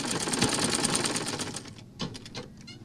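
A sewing machine in a tiny shop near the center of a village in Vietnam runs in a fast, steady stitching rhythm for about a second and a half, then stops, leaving a few scattered clicks and soft handling noises.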